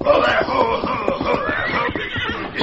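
A horse approaches, whinnying loudly over a steady rhythm of clopping hoofbeats, the neighing rising and falling throughout the short stretch with no voices.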